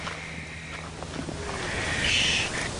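A faint owl call drifts in from far off, a low hoot barely rising above steady outdoor background noise and a soft rushing hiss.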